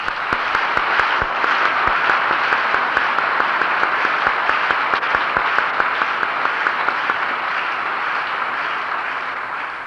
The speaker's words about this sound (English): I think it would be appropriate if we would express our recognition of these recipients by a round of applause.